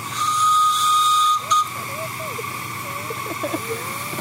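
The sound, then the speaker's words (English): A small steam engine whistle gives one loud, sustained shrill blast with a hissing edge for about a second and a half, then cuts off, leaving quiet background murmur and faint voices. “I wonder if it's got a little whistle.”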